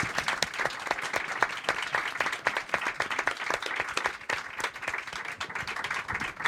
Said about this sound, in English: I think that's the perfect way to end it. Big round of applause, please, for our four great panellists